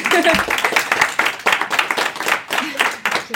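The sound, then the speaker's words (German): An audience of some 6,000 to 7,000 listeners applauds steadily for a few seconds for young women seated at the front, a dense patter of many hands clapping, with voices cheering or talking over it. “Von daher vielleicht mal ein Applaus für die jungen Damen.”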